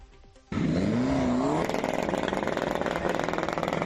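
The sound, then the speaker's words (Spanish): Car engines rev loudly and aggressively, with black smoke pouring from the exhausts, along with motorcycles without silencers: a sudden roar that rises in pitch, then settles into a sustained, rattling high-revving drone. “escucha lo que hacían los coches”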